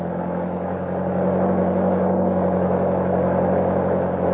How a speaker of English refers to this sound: All right, kick that motor over.